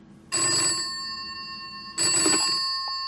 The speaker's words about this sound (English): Is that a phone call?